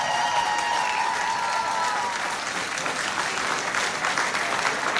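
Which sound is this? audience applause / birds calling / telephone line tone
audience applause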